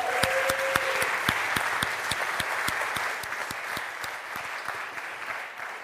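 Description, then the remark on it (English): A crowd applauds volunteers steadily, a dense wash of clapping with a few sharp, rhythmic claps standing out, sustained for several seconds before easing slightly. “Can we have a round of applause for our volunteers?”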